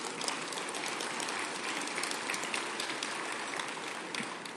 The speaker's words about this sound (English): We're also committed to making it easier to build and renovate housing here in Anchorage, because we know we just need that so, so badly. Yes, let's clap to that.